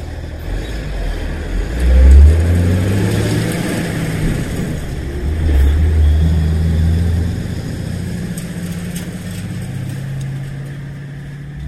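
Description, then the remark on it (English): Heavy engines rumble low as two trucks pass by, each swelling to a loud, revving peak before easing off, with a steady engine drone filling the gaps between. “Got two trucks there.”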